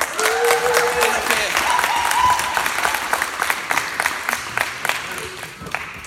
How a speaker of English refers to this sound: So I'd like a big round of applause